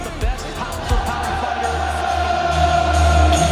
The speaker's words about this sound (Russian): Вот так кричат трибуны, и вот это ощущение трибун